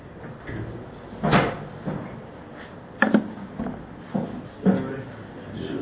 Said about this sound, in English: Close the window? Yeah, maybe we better close the window and then we'll turn on the air or something.